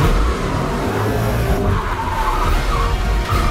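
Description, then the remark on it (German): A fast car roars past with loud, sustained tire squeal as it skids, engine noise and screeching blending into one continuous burst with no voices. “Schnelle Autos.”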